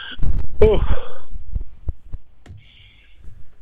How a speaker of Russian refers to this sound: Сейчас у меня сейчас дыхание, я поднимался, у меня сейчас дыхание, чуть дайте мне секунду.